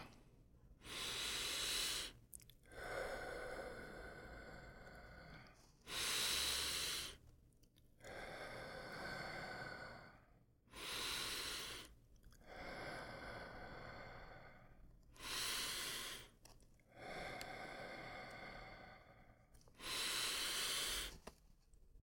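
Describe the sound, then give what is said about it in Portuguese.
Slow, deep breaths during a chakra breathing exercise for the heart chakra, each long airy inhale followed by a stronger, breathy exhale, repeating in a steady rhythm about five times with no talking. “Respirando.”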